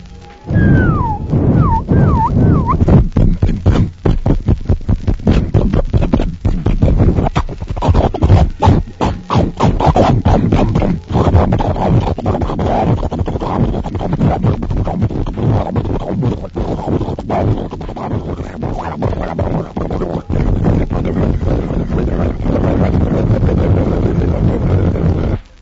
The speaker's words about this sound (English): boarded the flagship, and took a seat up front where he could watch the propellers. The engines roared to life.